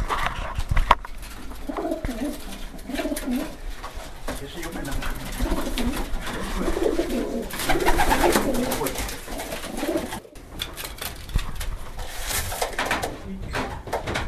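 Racing pigeons coo steadily in a loft, several birds overlapping in soft, throaty rolling calls that fill the space continuously, moderately loud, with faint rustling underneath.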